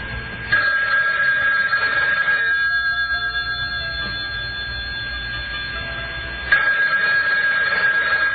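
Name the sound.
telephone ringing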